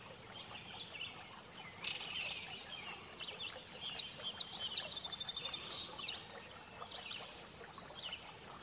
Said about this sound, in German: Größere und kleinere Steine lenken den Fluss des Wassers ab und geben dem Lauf mehr Zeit. Du kannst das Plätschern des Baches hören.